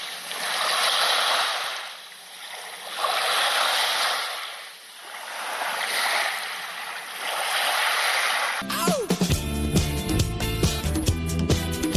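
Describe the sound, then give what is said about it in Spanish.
Summer seaside marina ambience at the Real Club Náutico de Palma during the Copa del Rey sailing regatta, with broad, hissing water that swells and recedes in slow waves every few seconds, no voices; after about nine seconds, bright music cuts in and takes over. “Aquí estamos con sonido veraniego, cerquita del mar, en el Real Club Náutico de Palma, disfrutando, viviendo durante toda esta semana la Copa del Rey Mafre de Vela”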